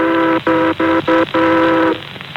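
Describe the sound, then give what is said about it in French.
Horns of tugboats passing each other on a river toot loudly, sounding a long blast, then three short blasts followed by another long one, a clear V rhythm. There is no talking. “Les remorqueurs se croisent sur le fleuve.”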